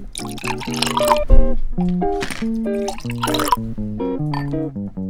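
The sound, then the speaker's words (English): Cranberry juice being poured into sugar-rimmed glasses, a steady gurgling stream with ringing tones that shift in pitch as each glass fills, with no talking. “So just roll your lemon juice around the top, and then we're just going to pour in the cranberry.”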